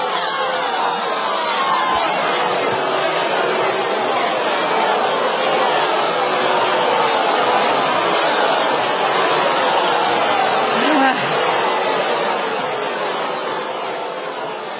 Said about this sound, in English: Well, I'll tell you what, it sounds like the crowds in Madison.